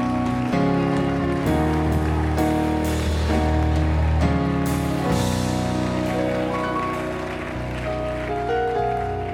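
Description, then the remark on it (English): A church audience claps steadily to the Lord Jesus, a dense, continuous wash of many hands sustained for several seconds, with instrumental music and held chords ringing underneath. “Let's clap our hands to the Lord Jesus.”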